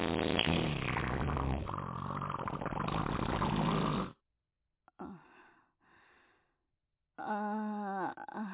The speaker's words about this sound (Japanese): お母さんおならしました。さっきの匂いも、お母さんの透かしです。